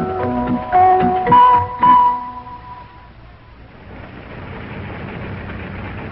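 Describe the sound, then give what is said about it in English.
A car engine as the car drives up to a little building, the town hall of East Cantankerous: a few loud, tonal blasts over the first seconds, then a steady low rumble of the running engine. No talking. “And as today's episode begins, we're driving up to a little building which is the town hall of East Cantankerous.”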